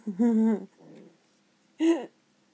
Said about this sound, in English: Oh, and she's squeaking again, kinda. I love it. And dim growls. Ooh, dim growls, though.